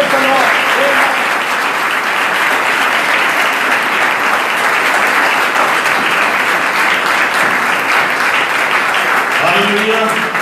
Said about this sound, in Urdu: زوردار تالیاں بجائیں.